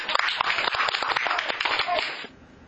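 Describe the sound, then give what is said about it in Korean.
A group of people applauds for about two seconds, a dense crackle of many overlapping claps at steady loudness that stops abruptly, leaving faint background hiss. “예, 박수입니다.”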